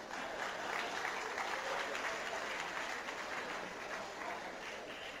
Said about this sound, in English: The main tax proposals are, honourable members, a new top personal income tax rate of 45% for those with taxable incomes above 1.5 million rands. I thought you would clap for that.